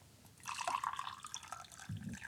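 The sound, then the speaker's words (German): Hot water pours in a steady splashing stream for about two seconds, a bright liquid sound with no one speaking. “Und es ist eben anscheinend so, dass heißes Wasser viel weniger viskos ist, also das ist nochmal das Heiße.”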